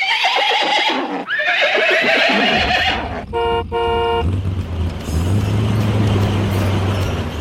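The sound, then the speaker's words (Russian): The horses of Ded Moroz's troika whinny loudly and shrilly, with hooves clopping beneath, then a brief horn of the "Ded Moroz Express" truck blares and a low engine rumble carries on to the end. “Целую неделю волшебная тройка Деда Мороза и летающий грузовик «Дед Мороз-экспресс» с 20 снеговичками на борту носились из города в город, с улицы на улицу.”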